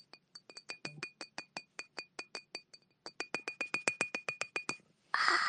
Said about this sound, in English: Welcome to my ASMR. We are tapping. Today we're doing glass triggers.